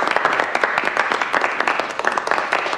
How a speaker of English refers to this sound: Adam starts the clapping and the others join in. Lucille, Mrs. Umney, and Hiram stand up.